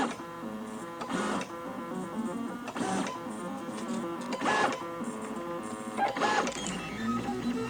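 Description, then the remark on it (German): A 3D printer runs steadily, its stepper motors whining in shifting tonal patterns with recurring swells roughly every second and a half as it traces circles. No one speaks. “Hört sich sehr interessant an. Der druckt gerade Kreise.”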